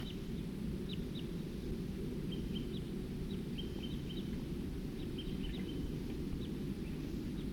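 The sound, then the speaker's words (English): Calls of type 2 birds: a scattering of brief, high-pitched chirps repeating irregularly throughout, fairly faint over a steady low rumble of background noise, with no talking. “Here comes some more type 2 birds.”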